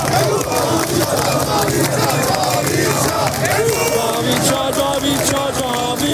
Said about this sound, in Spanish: Están gritando ¡Viva el Shah! Mientras recorren las calles de una ciudad iraní indeterminada.